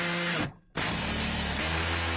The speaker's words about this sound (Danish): Nå, så lad os gå videre til noget, som er rigtig, rigtig godt. Yay! Nemlig lyden af en boremaskine.